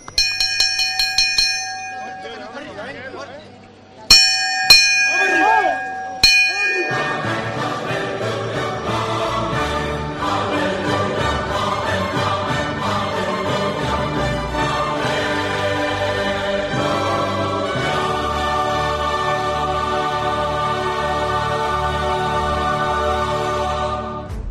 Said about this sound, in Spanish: Y ahora los toques de campana.